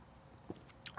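A quiet sip of Hopnosis IPA beer from a can: a few brief, wet slurping mouth sounds, with a short hissy draw near the end and no talking.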